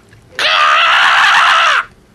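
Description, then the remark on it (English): A person lets out one loud, raspy screech mimicking a crow, held steadily for about a second and a half before cutting off, with no talking around it. “do you do the crow screech again?”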